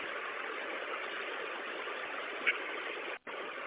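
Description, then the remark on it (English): A bus engine idles in a steady, unbroken rumble that fills the background, even in loudness, with a brief dropout near the end before the drone resumes, while the driver locks down the bus. “Okay, give me a second to lock down the bus here, and I'll be right with you, okay?”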